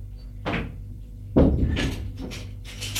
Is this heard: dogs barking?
no